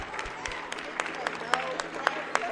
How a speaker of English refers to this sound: Still, the play wraps up with some polite applause.